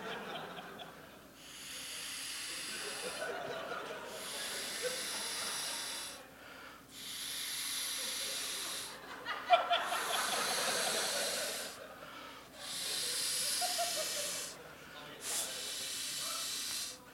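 A ball is inflated with air on stage in a theater at South By, before a capacity crowd, in six steady, rhythmic bursts of loud, breathy hissing, each lasting a second or two and separated by short pauses.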